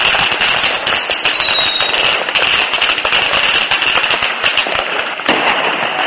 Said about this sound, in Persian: سوای اینها در دبی هم آغاز سال 2011 با برنامه‌های آتشبازی جشن گرفته شد.